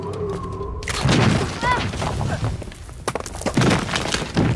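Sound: earthquake rumble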